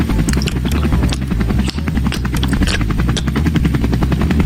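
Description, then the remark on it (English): A helicopter drones steadily, its rotor chopping in a fast, even rhythm over a deep, loud engine rumble that fills the whole stretch without pause. “You're on the helicopter to my very special park, Senator Biden.”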